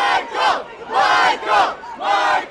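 A large crowd chants in unison, loud rhythmic shouts rising and falling about twice a second, with many voices blending into a dense, echoing roar.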